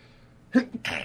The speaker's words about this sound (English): I don't know, I'm about to sneeze. Sorry.